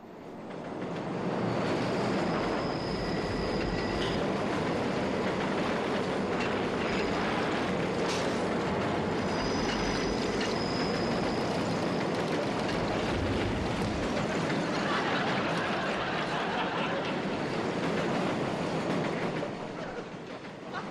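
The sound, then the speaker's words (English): A train rumbles loudly past, a steady roar of wheels and rattling cars with metallic squeals, filling about twenty seconds before easing off at the end. “Train may be a clue.”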